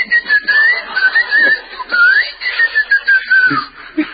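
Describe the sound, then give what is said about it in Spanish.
A person whistles a wavering, warbling tone imitating an elevator overload alarm that sounds when the elevator will not start, repeated in short pitch-sliding bursts for a few seconds, fairly loud, with no talking. “Sí, yo me subo un ascensor, se cierra la puerta y siento que me chiflan y no arranca el ascensor, me muero de miedo, imagínese, ¿no?”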